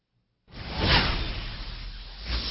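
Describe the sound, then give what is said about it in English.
After a brief silence, a single loud whoosh sound effect sweeps in, swells to a peak almost at once, then trails off as a long, airy rush of noise with no voices. “Katie, can I get a swoosh?”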